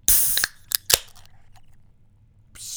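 A beer can, held up to a microphone, being opened: a loud burst of hiss, a couple of sharp metallic clicks, then a quiet low rumble before another soft hiss at the end. No voices.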